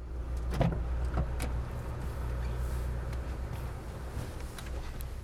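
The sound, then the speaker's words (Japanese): Car bodywork being handled over a steady low engine idle, with a few sharp clunks and thuds early on, like a trunk and doors being opened and shut as luggage for an overnight trip is loaded into the car. “トランク開けてくれる？よいしょっと。オッケーです。お車に乗せさせてもらいます。”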